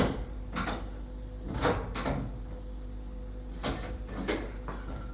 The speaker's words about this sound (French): Il entend Yves descendre les escaliers. Alexandre ferme la porte à clé.